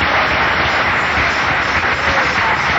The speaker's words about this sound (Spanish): Denle un aplauso a Cristo en esta noche.